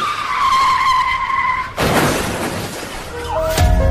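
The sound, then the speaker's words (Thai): A speeding car brakes hard to stop for a pedestrian at a zebra crossing, with a long, loud, high-pitched tire screech that holds steady for nearly two seconds, then cuts into a broad rough burst of road and engine noise. “นี่คุณขับรถอะไรเร็วขนาดนั้นน่ะดูข้างหน้าดิสิ”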